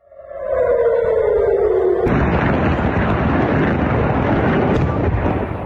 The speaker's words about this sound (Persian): به دنبال ادامه حملات موشکی از سمت غزه به اسرائیل، ظهر روز دوشنبه صدای آژیر در مناطق مختلفی از شهر تل آویو به گوش رسید و ویدیوهایی در شبکه اجتماعی از انفجار دست کم یک موشک در اطراف فرودگاه بن گوریون این شهر منتشر شد.